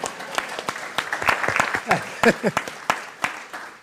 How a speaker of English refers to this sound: I think it's good to applaud the first person to ask a question.